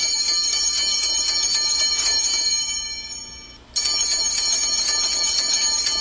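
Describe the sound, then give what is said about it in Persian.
A school bell in Tajikistan rings loudly and continuously with a bright, metallic clatter, the first bell of the new school year. It dips briefly partway through, then snaps back in at full strength. No one speaks. “با بهانه زنگ اول و آغاز سال نو تحصیل”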